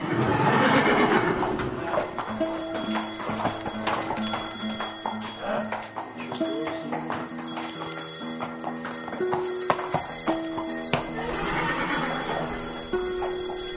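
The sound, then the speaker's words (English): A harnessed horse team on a farm: a horse whinnies loudly at the start and again near the end, with harness bells jingling steadily and hooves clip-clopping throughout. “So I watch my dad harness the team.”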